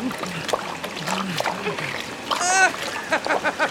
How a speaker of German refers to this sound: Nein, die Badewanne läuft voll Wasser. Der Ballon sinkt. Schnell, wir müssen das Wasser rausschöpfen mit unseren Helmen. Los!